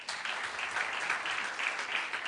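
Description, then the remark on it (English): A public radio show audience applauds steadily at host Michael Feldman's prompt about a Candy Crush reference, a dense wash of many hands clapping at an even, sustained level with no voices rising above it. “All right, applaud if you have no idea what the reference to Candy Crush was all about.”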